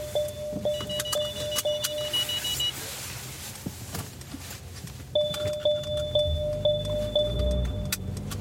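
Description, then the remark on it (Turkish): A car reversing while manoeuvring into a car park, its warning beeper pulsing steadily at about two beeps per second in two separate runs, over a low, constant engine rumble. “Şimdi bahsettiğim kontrollü sürüş. Ve geri geri.”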